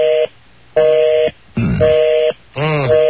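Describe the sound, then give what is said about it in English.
A phone call reaching a phone that is off the hook gives a busy signal: loud, steady electronic tone bursts repeating in an even on-off rhythm, with some muffled voice-like warbling blended into the later beeps. “We're going to keep trying, though, because the only way it's really fun is if he picks up the phone.”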